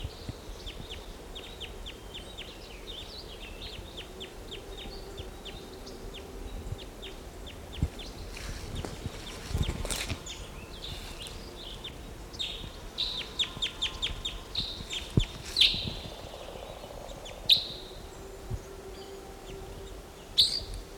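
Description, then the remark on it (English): A wild bird calls repeatedly from the trees with short, high chirps in uneven bursts, a few sharper notes standing out over a steady low outdoor hiss; no one speaks. “Here's one of the birds.”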